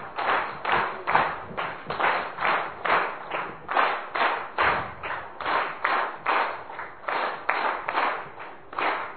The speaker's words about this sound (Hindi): हमारे स्पीकर महोदया, speaker ma'am का बहुत बहुत हम स्वागत करते हैं मंच पर। तीन ताली, 1 2 3।